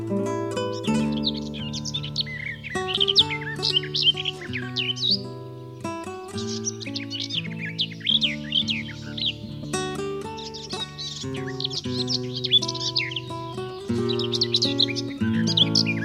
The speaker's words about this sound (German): Das war die Gartengrasmücke.